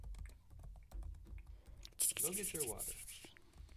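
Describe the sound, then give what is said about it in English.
Quick, irregular keyboard typing clatters, joined midway by a louder rustling swish of pages being turned, with a low muffled voice murmuring underneath. “I like hearing the extra noises. The typing and the page turning.”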